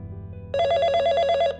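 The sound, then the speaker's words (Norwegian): A telephone rings with a loud, rapid bell trill that starts abruptly after a low hum and rattles on for about a second before stopping. “Telefonen ringer.”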